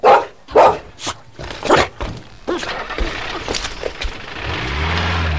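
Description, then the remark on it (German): A dog barks four or five times in quick, uneven bursts, loud, before an engine revs up and a car rumbles steadily underneath. “Und pass bloß auf diesen gefährlichen Hund auf.”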